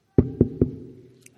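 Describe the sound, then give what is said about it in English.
Three quick, evenly spaced knocks on a wooden surface, fairly loud, each with a dull low thud and a short resonant ring that fades afterward. “Where can I make a noise? Oh, here.”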